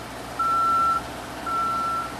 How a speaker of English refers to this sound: These sounds are a crane and the man lift backup alarms.